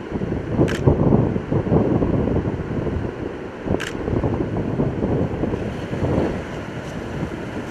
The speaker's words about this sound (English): Notice the wind just picked up 5 to 10 miles an hour just all of a sudden, and the waves are already showing that.